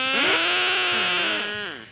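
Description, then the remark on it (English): A crowd at a rainy outdoor event all blow duck calls at once on a count of three, forming a loud, buzzy, reedy chorus of overlapping pitched squawks that waver up and down for about two seconds, then fade slightly. “Yeah, can we get everyone do a duck call at once?”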